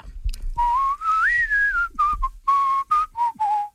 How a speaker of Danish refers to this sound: Jeg føler selv, at jeg er rimelig god til at fløjte. Ja, det er du faktisk.